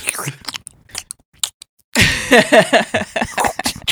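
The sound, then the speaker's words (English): A pumpkin being carved: scattered wet crunches and clicks at first, then a denser stretch of loud scraping and gouging with faint squeaky tones mixed in. “This is the sound of someone carving a pumpkin.”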